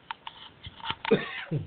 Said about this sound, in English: excuse me about that cough.